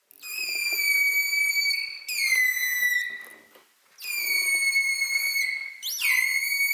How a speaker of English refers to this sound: Making that louder call takes more energy. Holt and Noren found that when the dolphin was whistling harder and louder, its metabolic rate rose by up to 80% above normal resting levels.